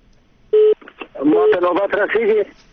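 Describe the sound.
A single short, steady telephone keypad beep sounds on its own on a radio call-in line, followed right after by a man talking over a thin, phone-quality line.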